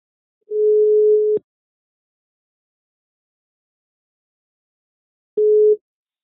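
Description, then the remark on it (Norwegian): A telephone ringback tone while a call is placed to the private investigation firm Nordlys etterforskning: a steady, clear electronic tone sounds for about a second, a long silent gap follows, then the tone begins again before cutting off. “Vi kan bare ringe han, sant?”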